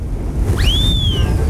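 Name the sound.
wind blowing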